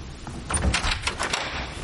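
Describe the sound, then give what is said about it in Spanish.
A woman opens a door in a house, with a cluster of quick clicks and rattles from the latch and handle lasting about a second, then quiet. “Beatriz abre.”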